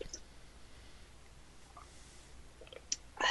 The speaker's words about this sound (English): Okay, yep. Now you're just slurping in my ear. You know what? What? I heard that. What are you drinking now? I'm drinking water. Don't be so loud with the water.